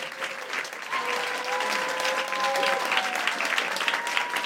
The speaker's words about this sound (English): Thank you all for your questions. Another round of applause for Nora Jemison.